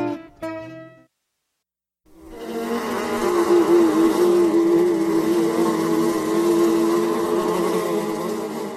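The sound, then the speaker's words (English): A dense, steady swarm of yellow jacket wasps drones loudly and continuously, a low whirring hum thick with overlapping wingbeats. A short tonal note sounds first, followed by a brief silence. “Yellow jackets are in the Hymenoptera, or membranous wing order, and are endowed with clear wings.”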